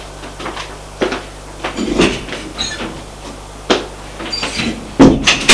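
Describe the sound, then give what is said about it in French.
A door is opened and closed as a man leaves the living room of his parents' home, with a series of sharp wooden clunks and latch rattles spread over a few seconds against a low background hum; no one speaks. “Bien, j'y vais. Et il sort du salon.”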